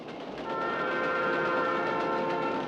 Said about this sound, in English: To many Americans, the whine and chug of a passing coal train means prosperity. But here at the Banta Market in Gary, West Virginia, its meaning is quite different.